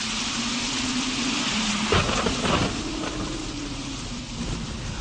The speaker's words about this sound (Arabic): ولكن كان المطر شديد قوي في الليلة دي.